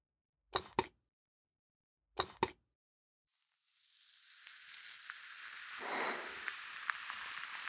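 Two soft taps, then a steady fizzing, crackling hiss of bubbling foam swells in and keeps popping, an ASMR ear massage done on both ears at the same time. No voices.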